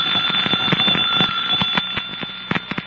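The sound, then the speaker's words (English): A doorbell, rigged to set a fire going, is pressed in a demonstration and rings continuously with a shrill, rattling electric buzz, holding steady for about three seconds with a few sharper clicks toward the end; no one speaks. “a perfectly innocent person might press the doorbell and set the fire going.”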